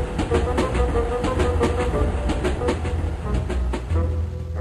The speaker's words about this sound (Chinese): 最后，阿乌达和皮斯决定留下来，而火车就这么开走了